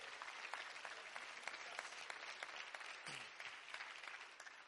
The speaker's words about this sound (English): If you want that, would you clap your hands and thank Him for the opportunity of the new?